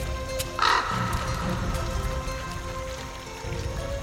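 A single harsh, crow-like bird call rings out near the start from a bird flying over a river, over a steady hiss of running water that continues throughout. No one speaks.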